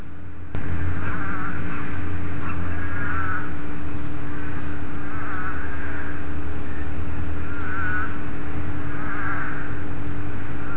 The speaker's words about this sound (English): That's pretty amazing. I mean, when do you hear the... Oh, the song of the desert toad. I hope that came out.